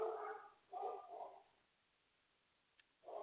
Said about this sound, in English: Dogs are barking.